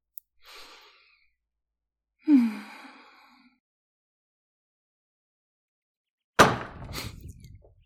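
doors being pushed open

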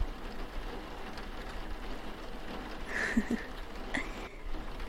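rain falling

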